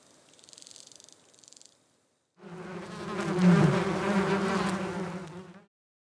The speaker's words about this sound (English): The bush cricket makes a sound by rubbing its wings together too. One of its wings has a hard line on it. The bush cricket rubs this wing against the other wing to make it sound.